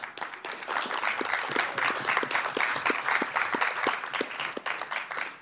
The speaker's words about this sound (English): Thank you for that round of applause for my fellow council member, because she said it all. And it deserves another round of applause, if you will.